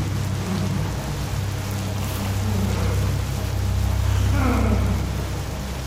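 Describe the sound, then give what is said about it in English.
Heavy rain pours down in a steady, dense hiss, with a low rumbling drone underneath and a slight swell in intensity toward the end. “Before he could get there, it started to pour.”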